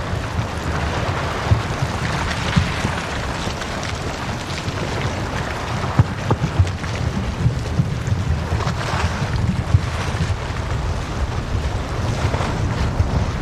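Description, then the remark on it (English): Steady, rain-like patter of dripping water fills an echoing chamber inside an iceberg, broken by a few sharp, brief cracks as pieces of ice crack off the roof and fall, ringing out in the reverberant space. No voices. “And you get this rain sound, but you get the echoing from the chamber of the iceberg, and as pieces crack off the roof and fall down, it creates this thunderous echo, which if you close your eyes, it sounds exactly like a thunderstorm.”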